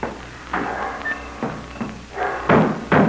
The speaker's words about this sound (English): Oh, don't you know when you slam a door, you shatter my nerves?